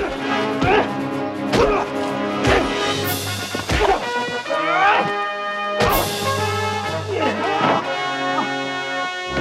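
Several sharp thwacking hits and a crashing smash ring out over dense, sustained music: a staged brawl on a film set, where a cowboy is thrown through the glass front of a bar and slugs it out with a shady Mexican man, punches landing every second or two and something shattering.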